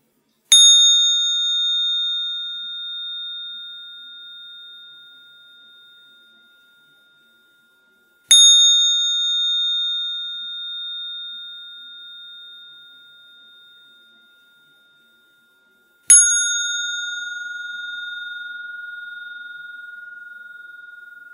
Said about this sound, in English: When you listen to the sound of the bell, try to follow the sound until the sound fades away.